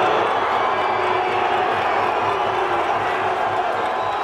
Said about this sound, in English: angry protesters outside the Parliament building were kept back behind railings, many booing the Prime Minister as he departed.